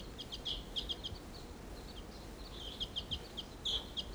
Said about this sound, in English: Wild bird, stop.